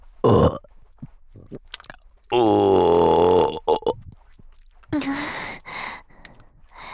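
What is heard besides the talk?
burping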